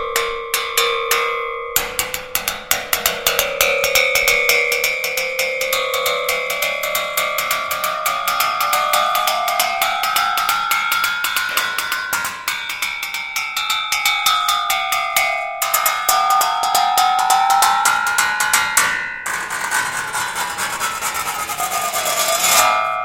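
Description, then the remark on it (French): A large 19th-century two-person crosscut saw blade, too thick to be bowed and tied by a string to a stool, rings out as it's struck with ski poles to make music, producing a steady stream of bright metallic taps and wavering, bending tones that rise and fall, loud, with no voices. “c'est une vraie scie qu'on appelait passe-partout”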